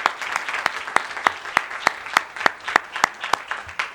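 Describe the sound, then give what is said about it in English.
An audience at a morning church service gives the Lord a hand clap of praise, a dense wash of many hands with sharp, steady unison beats about three per second running throughout, fairly loud and with no one speaking. “Let's all just give the Lord a hand clap of praise this morning.”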